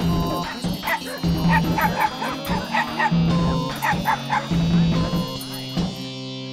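A dog barks and yips excitedly in quick, repeated bursts, fairly loud, with short pauses between clusters and a steady faint hum underneath.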